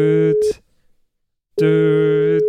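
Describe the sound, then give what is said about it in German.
A telephone ringing tone plays while waiting on the line for someone to answer: two steady, buzzy electronic tone bursts separated by a second of silence, loud, with no voices. “Ich hoffe, er geht ans Telefon.”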